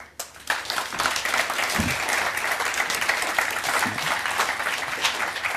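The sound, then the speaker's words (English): A large audience applauds the speakers at the end of a conference talk, a dense continuous wash of many hands clapping that holds at an even, fairly loud level from start to finish, with no voices standing out. “Big applause for them.”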